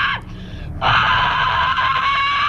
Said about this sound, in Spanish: En este vídeo se ve a la cantante con un vestido rojo cavando con sus manos un hoyo en mitad del campo. Cuando el hoyo es lo suficientemente grande, mete la cabeza y grita.